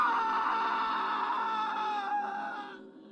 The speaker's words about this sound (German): Sie wollten gerade wieder das Licht von außen anschalten, da drang ein schriller, grausamer Schrei aus dem Badezimmer.